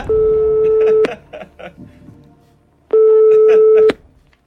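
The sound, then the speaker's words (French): A phone call to a friend is placed during a quiz game, the line ringing out with two long, steady electronic ring tones separated by a pause, with faint voices murmuring in the gap between rings. “Alors, vous savez, vous avez encore tous vos jokers, hein, si vous voulez qu'on lance un coup de fil à un ami. Oui. Ok, alors on y va, téléphone.”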